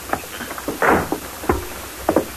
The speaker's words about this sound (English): Now I'll open the door.